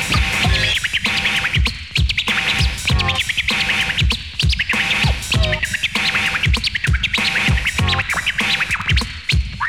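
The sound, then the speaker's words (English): Rapid, rhythmic turntable scratches chirp in short bright bursts over a steady beat, the record pushed back and forth to mimic a bird's call, loud and continuous throughout. “Now make it chirp.”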